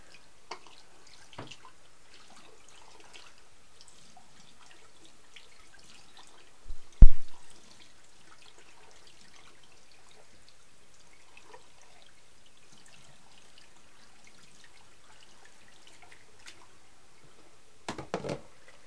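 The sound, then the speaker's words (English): A faint, steady trickle of water runs from a tap into a bucket, with scattered drips and a louder knock or splash partway through. Nobody speaks. “Water.”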